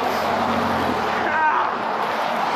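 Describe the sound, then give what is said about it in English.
A big truck rumbles past on a street, in front of a person walking along the side of the street, a loud, steady roar of engine and road noise that holds for the whole moment without letting up. “I'm just walking on the side of a street right now. There's a big-ass fucking truck in front of me.”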